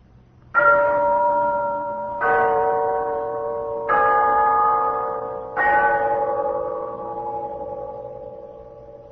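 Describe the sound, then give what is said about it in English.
A clock on the mantelpiece of an apartment chimes four slow, evenly spaced strokes. Each is a bright ringing tone that hums on and fades before the next strike. No one speaks. “And now there's a long pause, and there's no sound in the room except the sound of the clock on the mantelpiece of Miss Stone's apartment.”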